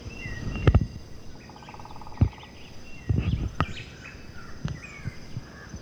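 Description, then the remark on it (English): A white-chinned thrush, black-faced grassquits and yellow-shouldered grassquits sing softly, scattered high chirps and a brief buzzy trill over a steady insect hum, broken by a few low thumps and rumbles. “There's also the white-chinned thrush singing, the black-faced grass quit, the yellow-shouldered grass quit.”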